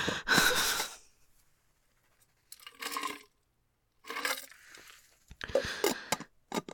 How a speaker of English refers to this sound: I want to take a really quick drink because I'm thirsty.